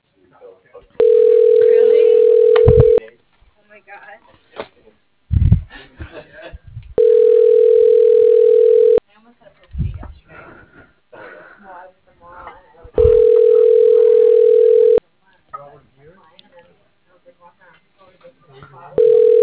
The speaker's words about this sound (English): phone's now ringing, so I can't hear you anymore.